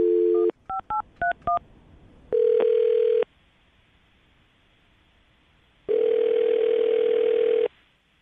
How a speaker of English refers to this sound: All right, I'm going to dial the phone number, see if we can get him on the phone and find out exactly why he's not calling you back, okay?